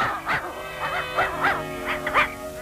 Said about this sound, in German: Vorwärts, du räudiger Köter. Hinein mit dir in die Rakete. Du japsender Hund.